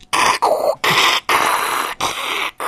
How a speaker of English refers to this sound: That's what dial-up sounds like, folks.